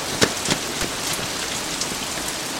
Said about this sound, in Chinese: 啊，好大的雷声，不会真要下雨了吧？ 这鬼天气怎么说变就变？ 下雨了，真下雨了， 快下大雨了，大家赶紧躲雨去。